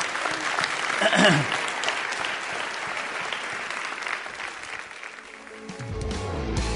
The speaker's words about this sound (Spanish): Si Dios le habló, dé un aplauso al Señor, que Él se lo merece.